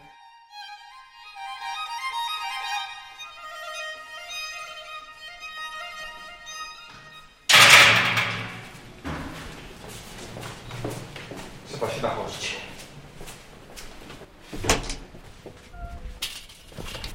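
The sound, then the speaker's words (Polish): A sustained buzzing tone gives way to a loud clang as a heavy door swings shut, one of twelve pairs of doors passed to leave a ward, followed by scattered knocks, shuffling steps and a brief remark from a man. “Która to już para drzwi. O Jezu.”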